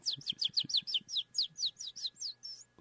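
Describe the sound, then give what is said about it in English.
A person whistles a quick, steady run of about a dozen bright, downward-sliding chirps, closely imitating a bird call, clear over faint low background thumps. “you want me to whistle over the rail?”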